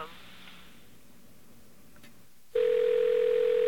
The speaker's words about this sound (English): Ah, repair. I think it's New York telephone that's broken. One moment. Okay, repair is ringing for you, okay?